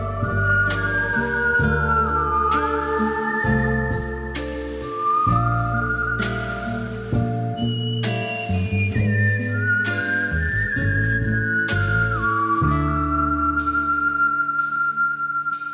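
Clear, sustained melodic whistling by a champion whistler carries a slow tune over a lush instrumental backing of bass and chords, with gliding pitch slides between notes, played steadily and fairly loud with no talking; a recorded music track.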